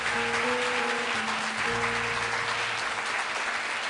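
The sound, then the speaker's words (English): Sustained, loud audience applause after a monologue fills the whole stretch as a dense wash of clapping, with a low steady hum of tones running beneath it and no speech. “That was excessive applause.”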